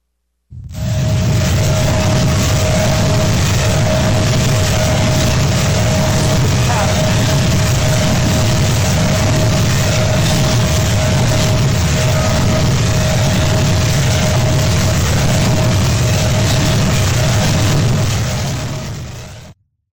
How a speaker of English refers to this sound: Wind turbine mounted in the water. That's the sound of all the gears and everything moving in that pattern of how the wind turbine works.